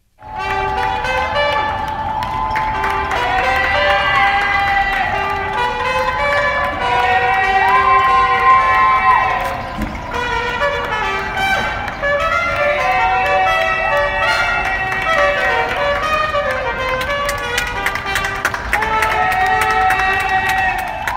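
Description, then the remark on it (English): A crowd of people on a street in Harlem cheering and whooping from fire escapes at 7 p.m. on April 6th, thanking essential workers during the COVID pandemic, mixed with ringing bells and bright clanging tones. The din is loud and unbroken, lasting the whole stretch. “Remember people cheering from their fire escapes when it wasn't safe to gather and cheer in person?”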